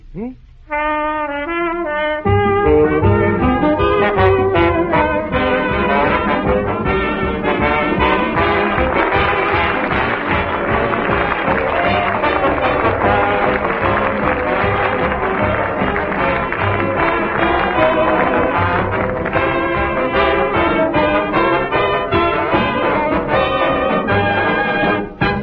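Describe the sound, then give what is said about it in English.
A band with a trumpet section plays the Wisconsin fight song "On Wisconsin", loud and brassy with a brisk marching beat, carrying on steadily for about twenty-five seconds with no voices over it. “Artie, can you play On Wisconsin, please, sir?”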